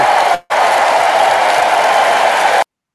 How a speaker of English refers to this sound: I am so proud of Alicia and Samantha. Both of them are absolutely incredible at what they do. So round of applause.